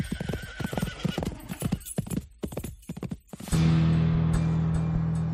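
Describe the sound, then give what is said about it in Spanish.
A horse gallops with rapid, uneven hoofbeats for a few seconds, then a loud, sustained neigh takes over and carries to the end, with no talking. It is Booth's horse as he rides away from the theatre after shooting President Abraham Lincoln. “Aunque algunos espectadores intentaron frenar la huida de Booth, el criminal logró escapar del teatro y, montado en su caballo, desapareció.”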